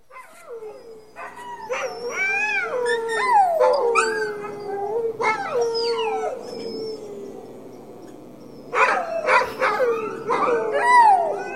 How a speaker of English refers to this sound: Now, the howling you're hearing right now is actually the thank you howl that we get after we feed the dogs, but you get the point. It can be quite noisy when the first dogs are just 10 feet away from your wall where the bed is.